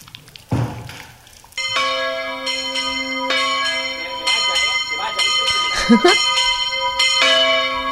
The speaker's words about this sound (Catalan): Juhu, campanes.